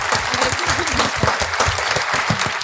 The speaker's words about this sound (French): On applaudit les futurs parents. Ouais.